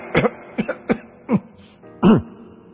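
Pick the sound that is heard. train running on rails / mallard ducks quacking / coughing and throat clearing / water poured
coughing and throat clearing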